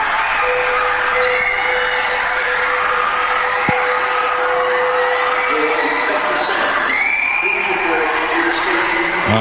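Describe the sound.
A large crowd in the lobby outside Manchester Arena screams and shouts in panic while leaving a concert after an IED was detonated, a dense, loud, continuous roar of many voices, with a steady electronic tone droning underneath for the first several seconds.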